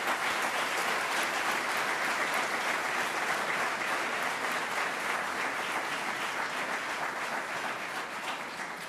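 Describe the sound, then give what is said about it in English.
Sustained applause from a sizable crowd for the first employees of NROC in Rochester, a dense, steady wash of many hands clapping at an even level for several seconds before tapering slightly at the end. “Let's give them and the first employees of NROC a big round of applause.”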